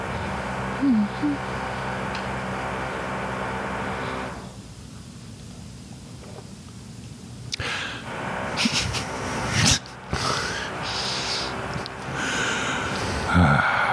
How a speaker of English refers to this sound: I know drills are important. I know the work they're doing is important. I still hate the sound. This is a lot of drilling. Like, it's usually not this much.